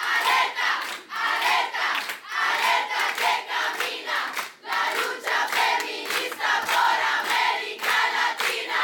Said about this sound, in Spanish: Hay un cantito que el movimiento feminista grita en todas las marchas y es este.